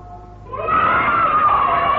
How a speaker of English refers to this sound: Ah, you hear the children yell when they hear the dinner bell.